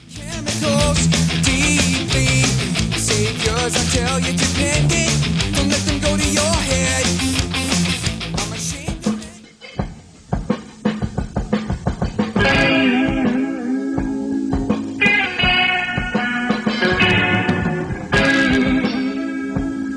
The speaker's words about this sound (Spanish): Así que, pues eso, os dejamos ahora mismo con un tema de un grupo